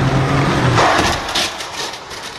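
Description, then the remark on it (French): In a crash test, a car engine hums steadily as the car travels at 50 km/h, then it strikes an electric scooter with a loud, broad crash, followed by scraping and clattering debris that fades as the noise settles. “Le scénario est simple, une voiture lancée à 50 km/h percute une trottinette électrique qui a grillé un feu ou un stop, et voilà l'impact.”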